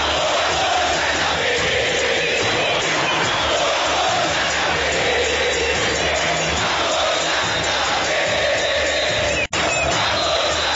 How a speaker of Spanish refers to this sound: siguen a su equipo en todos los partidos, se ubican en las laterales sur y norte del Estadio El Campín. Y son los encargados de alentar al equipo con sus bombos, con sus redoblantes, con sus palmas, con sus gritos, los 90 minutos de cada partido.